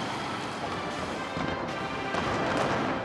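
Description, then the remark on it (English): Fireworks explode in a dense, continuous barrage of booms and crackles during a spectacular display in April, loud and steady throughout with no clear gaps, and a few sharper bursts standing out near the end. “A spectacular fireworks display in April is rumoured to have been orchestrated by Kim Jong-il's favoured successor”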